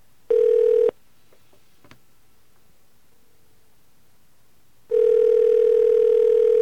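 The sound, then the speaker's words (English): A telephone ringback tone from a call placed to a phone in Boca Raton, Florida: a steady, low-pitched electronic buzz sounds briefly, falls silent for about four seconds, then returns and holds to the end. No voices are heard. “Well, I hear a ring.”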